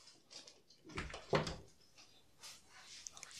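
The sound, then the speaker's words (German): A studio door is opened with a brief creaking clunk, followed by quieter shuffling and a few faint light taps as a dog pads across the floor into the studio. “Magst du kurz aufmachen? Ja. Weil ich glaube, unsere Lana möchte da jetzt ins Studio mit rein.”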